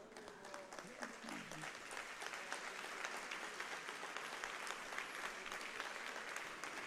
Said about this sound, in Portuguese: Que vocês aplaudam a Deus, que essas palmas de vocês sejam a mais pura expressão da verdade que existe em seus corações em relação ao Pai.